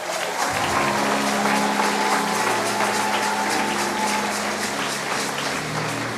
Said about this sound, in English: Clap your hands and celebrate.